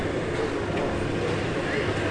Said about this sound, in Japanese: このエンジン音は救急車です。